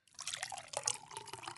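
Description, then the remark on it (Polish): Water pours steadily into a glass for a moment, a soft, continuous splashing trickle, fairly quiet, with no voices. “Mogę jeszcze wody?”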